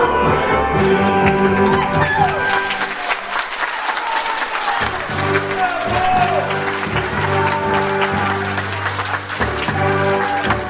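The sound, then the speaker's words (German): Sustained applause from an audience at a Fasching (carnival) party in the AMG-Haus in Temeswar, for residents of the AMG care home swinging colourful cloths in time, seated or dancing around chairs; a dense, steady clatter of many hands clapping over music playing underneath. “Auf Stühlen sitzend oder sich um die Stühle im Tanzschritt drehend, schwangen sie im Takt bunter Tücher und ernteten dabei den größten Applaus.”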